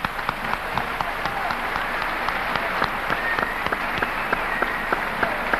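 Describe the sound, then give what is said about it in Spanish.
An audience applauds steadily to welcome Ana Naón and Sonia Rolón onto a show, many hands clapping in a dense, continuous patter with scattered sharper claps standing out throughout. “Es el momento en que suelo convocar a Ana Naón, que ya está aquí, y a Sonia Rolón, que también está, quienes recibimos con aplausos.”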